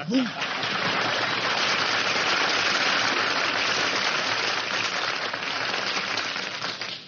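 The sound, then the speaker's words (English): Steady, dense applause from a crowd, a loud continuous wash of clapping that holds for several seconds before tapering slightly at the end. “Man, when I get applause like that, I know the audience is from Brooklyn.”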